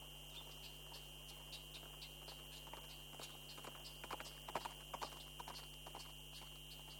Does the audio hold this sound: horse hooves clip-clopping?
yes